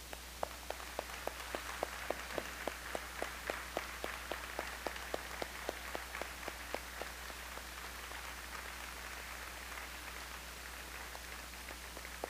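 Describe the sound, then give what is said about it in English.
A church audience applauding warmly one morning to wish departing members well, a dense crackle of many hands with a few sharper, evenly spaced claps standing out early on, then the applause gradually thins and softens toward the end. “We wish them well by a warm applause this morning.”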